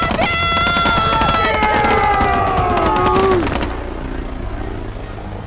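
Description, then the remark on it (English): Loud, rapid bursts of automatic and rifle gunfire aimed at a helicopter crackle for about four seconds over a droning, whining engine-like tone, then cut off, leaving a softer rumbling background. “Grab a rifle off the squad leader and fire at the helicopter!”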